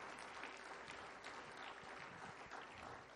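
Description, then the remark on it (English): A crowd in church claps steadily and densely, many hands blending into a continuous wash of applause for the whole stretch, with no voices standing out. “That's when you should clap your hands right now today in God's house.”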